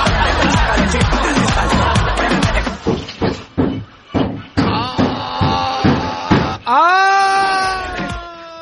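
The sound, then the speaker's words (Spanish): A man hammering: loud hammer blows strike in a steady series of about eight sharp metallic knocks, each roughly half a second apart, following a burst of clattering noise and ending as a drawn-out wailing tone rises. “Eso todavía no termina de golpear al hombre ahí martillando.”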